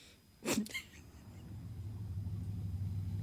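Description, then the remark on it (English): Ruby's hotwired car pulls up. Its engine rumbles low and steady after a short, sharp burst of noise at the start. The deep hum builds quickly and holds to the end, with no voices. “Anyway, so I pulled up in Ruby's car.”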